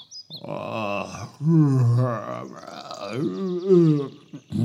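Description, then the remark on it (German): A voice performs a loud, drawn-out yawn, rising and falling in pitch across two long groaning swells before trailing off with a short breathy sigh. “Sie gähnte laut.”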